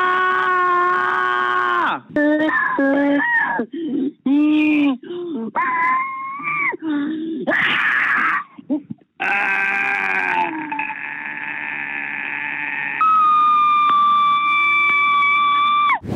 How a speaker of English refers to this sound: There's even a website where you can listen to over 3,000 pre-recorded screams. We have a sample for you.